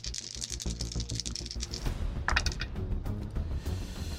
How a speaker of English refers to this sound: Yeah, hearing like a ton of dice. Yeah. Rolling.